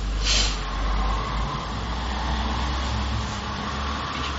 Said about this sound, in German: Wie willst du akzeptieren, dass da jetzt gerade ein Auto vorbeigefahren ist?